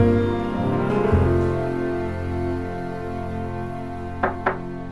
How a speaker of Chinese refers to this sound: 啊，这个时候谁会来敲门呢？啊，原来是戴家的二哥。